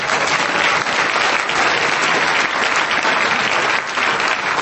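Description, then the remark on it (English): Steady, dense applause from an audience at a meeting after a speech fills the whole stretch, a loud continuous wash of many hands clapping with no talking over it. “Give yourselves a hand back there.”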